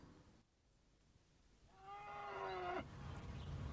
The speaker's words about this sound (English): Oh, it's a long winter with the cows inside, isn't it? Yeah. Yeah, and expensive. I'd have turned them out sooner, but Dad thought it was a bit wet.